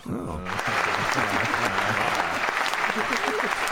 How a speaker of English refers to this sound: I have to give her an applause on that one. That wasn't the worst.